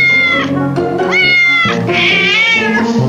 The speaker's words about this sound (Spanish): Pues tenemos, ahí están los gatitos, mire.